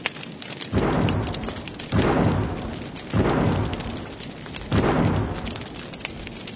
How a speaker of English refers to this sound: sort of like the sound of someone throwing batteries into the bonfire. Apparently, the kid who was having difficulties threw something into the fire, and apparently he thought it was the funniest thing that ever happened in his whole life.